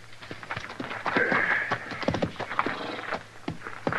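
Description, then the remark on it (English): Horses shuffle about, their hooves clip-clopping on hard ground in a steady but uneven run of overlapping steps, with no voices. “Oh, them horses got blood in them if I ever seen it.”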